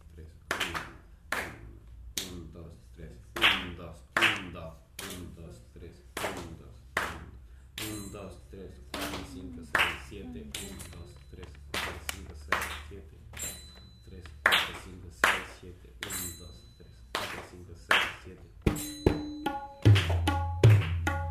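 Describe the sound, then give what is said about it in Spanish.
Sharp hand claps land in a steady, repeating rhythm, about two per second, over a low, booming drum beat, each low drum stroke marking two claps, with voices sounding faintly between the claps. “Fácil identificarlo por el golpe grave, marca las dos palmadas.”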